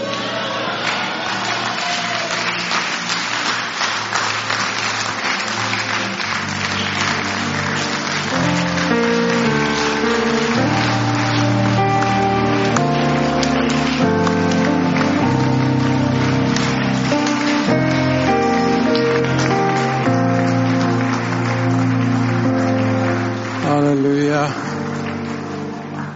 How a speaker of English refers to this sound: So if the clapping is unto God, let's give it to him.